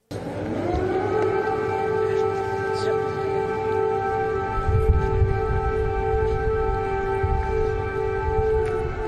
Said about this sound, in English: Air raid sirens are blaring and Joe stays cool as a cucumber